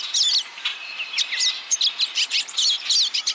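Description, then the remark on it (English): Pine siskin calls: a busy, overlapping stream of thin, high twittering chirps and buzzy notes from a small flock, fairly loud, with no voices. “Pine siskins, in particular, are prone to salmonellosis, a deadly bacterial disease easily transmitted from bird to bird.”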